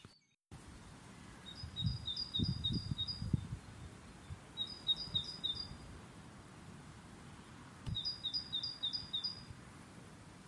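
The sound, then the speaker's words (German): A great tit sings three bursts of quick, high, repeated two-note phrases, separated by short pauses, over a low outdoor rumble. “Hört nun einen weiteren häufigsten Gast in unseren Gärten, die Kohlmeise.”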